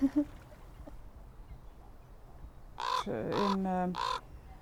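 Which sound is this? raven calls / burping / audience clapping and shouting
raven calls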